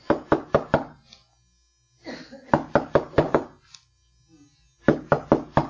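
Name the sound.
knocking on a door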